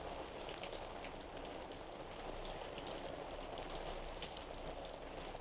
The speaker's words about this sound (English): A summer rain sounds pretty much the same in the forest, in the swamp, or in the city.